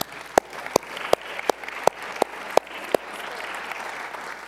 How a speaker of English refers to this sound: Oh, she's in preschool. You'll have to let her know you clap for her, okay?